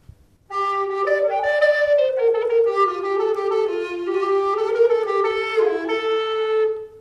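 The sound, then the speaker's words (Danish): A tenor recorder plays a smooth, breathy melody, moving stepwise through mid-range notes with a steady, clear tone, for about six seconds with no voices. “Større fløjter. Tenorfløjten.”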